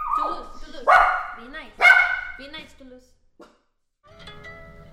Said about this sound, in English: But first she has to quiet her dogs.